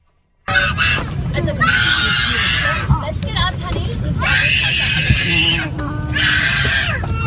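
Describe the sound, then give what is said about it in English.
A baby screams and wails in long, loud bursts on a Lufthansa flight from New York to Germany, rising and falling with brief gasps between, over a steady low rumble and murmur of background noise. “This baby, which was out of control, was screaming, hollering, yelling for the full 8 hours of the trip.”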